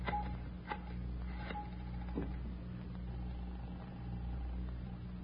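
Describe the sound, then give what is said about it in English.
A telephone handset is lifted with a few sharp clicks to place a long-distance person-to-person call, followed by short dialing tones and a steady tone, all over a low background hum with no one speaking. “Can I use your phone”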